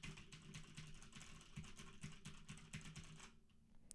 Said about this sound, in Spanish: Pero ¿qué ocurre si me pongo a escribir con el teclado?